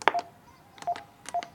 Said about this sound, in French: Nous voici à l'entrée nord de l'écoquartier des Vergers, au 24 Esplanade des Récréations. Par une belle journée ensoleillée, on va sonner à la porte du studio Satyam.